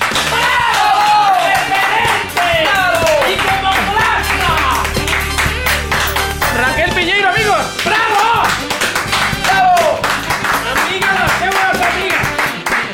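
Loud, sustained audience applause, a dense crackle of many hands clapping without pause, with whoops and cheering voices rising over it throughout.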